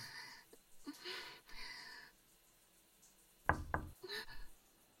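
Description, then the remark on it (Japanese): Someone raps firmly on a door, a quick cluster of three loud knocks, while the person inside is washing their hair, with soft breathy rustling sounds before and after. “あーごめん、ドア開けないで。今髪洗ってるとこだし明日の朝でいい？”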